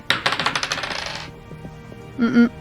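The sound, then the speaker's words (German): Dice are rolled for a history check, clattering and tumbling across a hard surface in a quick burst of small clicks that gradually settles, followed by a brief low voiced murmur near the end. “Ja, würfeln wir auf Historie.”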